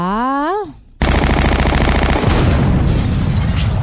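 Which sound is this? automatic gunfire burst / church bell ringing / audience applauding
automatic gunfire burst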